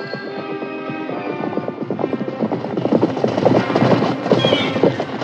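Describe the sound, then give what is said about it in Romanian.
A horse whinnies at the start, then rapid galloping hoofbeats of a horse with a rider build and grow louder, a dense rhythmic pounding with no talking. “ieși Țugulea călare în drumul smeului cel mare, care venea și el tot călare”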